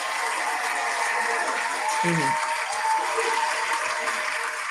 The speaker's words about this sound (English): So the fact that you, you know, spoke up and supported your students when this happened speaks volumes. So Addison Davis, I give you a round of applause for that, just because I just thank you.